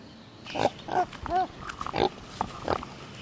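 A pet potbelly pig named Pablo, an 80-pound pink pig with white hair and black spots, grunts about six short snorting grunts in an uneven rhythm, one rising into a brief squealy whine, with no talking.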